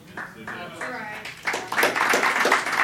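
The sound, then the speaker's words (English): A voice speaks, then scattered audience clapping breaks out partway through, a dense irregular patter of hands that rises and continues alongside the talk. “I don't know that that deserves a clap.”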